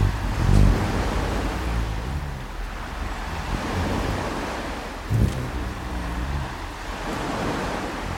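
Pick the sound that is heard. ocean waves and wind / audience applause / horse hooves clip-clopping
ocean waves and wind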